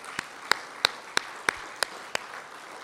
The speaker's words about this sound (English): Would you all just give a round of applause, just not for the preaching, that's not why he did it, but just to say to